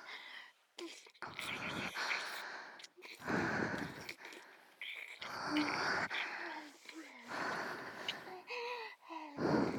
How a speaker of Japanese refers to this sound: ほら、ご主人様、私の吐息ですよ。